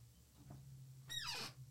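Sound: chair squeaking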